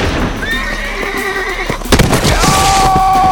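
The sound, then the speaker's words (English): A horse whinnies loudly as it collapses onto its rider, a long shrill cry broken by a brief heavy thump, then a second high whinny follows. No one speaks. “Some of the men managed to get the horse off of the wounded man's leg.”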